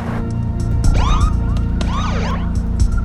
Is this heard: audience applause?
no